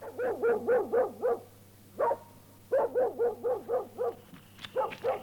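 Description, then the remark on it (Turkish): A mangy dog barks in front of a house in Tabriz, in rapid bursts of four or five sharp yaps, pausing between volleys, fairly loud, with a steady low hum underneath and no talking. “Bu uyuz köpekte, koca Tebriz'de hiç yer yokmuş gibi hep benim evin önünü bulur.”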